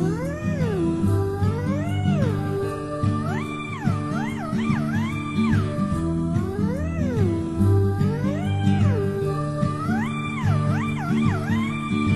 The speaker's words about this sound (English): Oh no, it's a black cat.